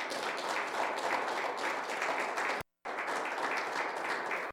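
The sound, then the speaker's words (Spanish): Steady applause during a Spanish-language sermon, given to the "King of Kings and Lord of Lords": a dense wash of many hands clapping at an even, sustained loudness, briefly cut to silence for a moment before resuming just as strong. “Démosle un buen aplauso al Rey de Reyes y Señor de Señores.”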